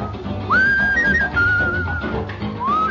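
A clear, sustained whistled melody swoops upward into long held notes, riding on top of a full dance-band accompaniment with a slightly dated, old-record sound.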